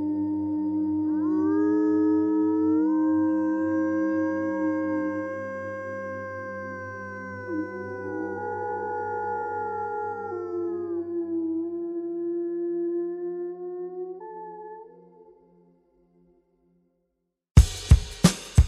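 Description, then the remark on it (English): A chorus of wolves howling, several long voices overlapping and sliding up and down for about fifteen seconds before fading out, then a few brief sharp bursts after a short silence. “And perhaps, learning to live with wolves can help humans appreciate their true position.”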